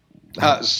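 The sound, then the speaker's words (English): A single short, throaty cough, a quick harsh burst that trails off into a breathy rasp. “I just had a cough.”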